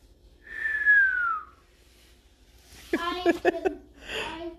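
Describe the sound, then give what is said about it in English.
A single clear whistle slides downward in pitch for about a second, followed after a pause by a brief burst of voice and a breathy exhale. “Can you whistle?”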